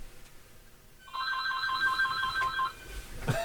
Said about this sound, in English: Uh-oh, we got a phone call. Oh, it's a teacher.